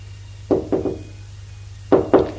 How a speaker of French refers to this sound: Alors elle quitte le salon. Il va frapper à la porte de la chambre de son fils.